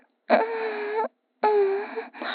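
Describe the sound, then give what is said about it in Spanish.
Heavy breathing, fairly loud: two long, drawn-out breaths with a voiced, moaning edge, separated by a short pause, and a third just beginning at the end. “Siento que ya estoy cerca, solo de oír tu respiración.”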